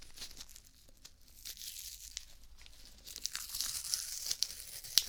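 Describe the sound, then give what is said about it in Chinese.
Crackly peeling of medical adhesive tape of the kind stuck on after an injection, a continuous dry ripping texture that grows louder and busier in the second half, ending with a sharp snap. No talking. “好，那接下来呢，再准备一下，打完针之后贴到你手上的胶带，对，现在用的都是这种胶带了，跟之前的不太一样，之前那种成卷的，对不对？”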